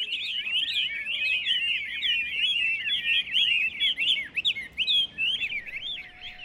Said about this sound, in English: You could spend training one single songbird to do one particular sound. And the cage had to be made by certain masters, and each element of the cage were made by different artisans who are famous.